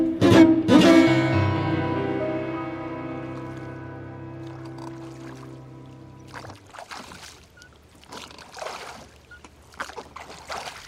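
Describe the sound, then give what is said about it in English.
A small boat travels to the middle of Lake Chapman in Piffling Vale as the rain eases off, with soft rhythmic sloshing and splashing strokes in the final seconds, after a ringing musical chord that slowly fades. No one speaks. “Unaware of the trouble that lay ahead, Rudyard, Georgie and I were travelling in a small boat to the middle of Lake Chapman, a body of water that Eric discovered on his first day in Piffling Vale.”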